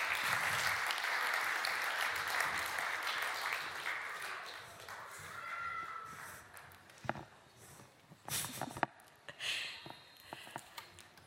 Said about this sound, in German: Dann doch alle mal ganz fest klatschen, dass sie sich alle verbeugen können. Und das Kids-Treff geht jetzt wieder zurück, den Sie doch gerade noch mal mit einem riesen Applaus raus begleiten.